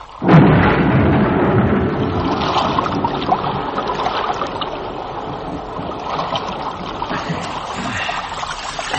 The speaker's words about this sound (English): One drink before we swim the moat.